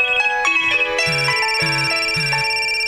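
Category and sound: signal or alarm, mobile phone ringtone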